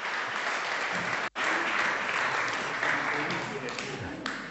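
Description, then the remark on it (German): A crowd claps steadily in sustained applause, dense and fairly loud, with a brief break early on before the clapping resumes and carries on. “Ja, auch ihr bekommt einen Applaus.”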